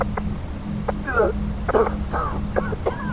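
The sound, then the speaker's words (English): Someone coughs hard several times in rough, strained bursts with raspy throat-clearing between them, over a steady low rumble; the coughing is caused by the stink of polluted water. “Somebody was coughing hard from the stink of the polluted water.”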